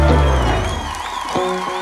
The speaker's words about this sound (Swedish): Vi lyssnar på reaktionerna. Mm. Det var onödigt av han att spela på gitarren på det där sättet i själva applåd.